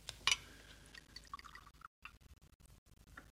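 Wine poured from a bottle into glasses at a tavern table: a bright glassy clink, then a soft trickling, gurgling fill with brief pauses between pours. Quiet, with no voices.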